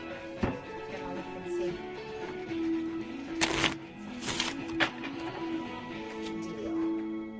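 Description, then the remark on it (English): Playing cards being shuffled, with a couple of quick riffling bursts in the middle over a steady low hum, and no voices. “How do you say shuffle or deal?”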